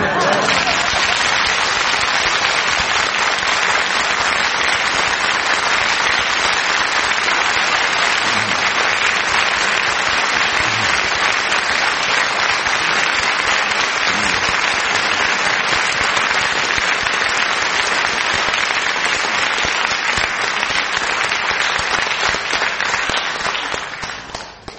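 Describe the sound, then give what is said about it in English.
Sustained audience applause for Frank on the radio programme My Word, a dense wash of many hands clapping at a steady, loud level for the whole stretch before tapering off at the very end. “But just in case I ever happen to oversleep again on this program, perhaps the listeners will now appreciate what goes on this side of the microphone during Frank's applause.”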